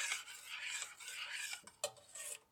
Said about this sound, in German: Es ist jetzt gar nicht mehr flüssig, sondern wirklich so galertartig geworden. Ich werde es jetzt noch einmal komplett durchrühren und dann einfach mal ins Glas abfüllen